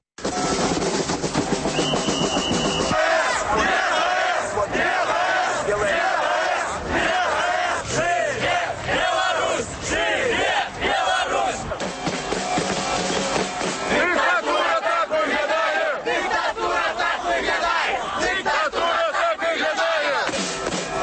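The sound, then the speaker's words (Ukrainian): A large crowd at the Chernobyl Way protest action in Belarus chants and shouts together in loud, continuous rhythmic bursts, the massed voices swelling and surging throughout with no single speaker standing out. “Ну а зараз у эфиры гуки з акции.”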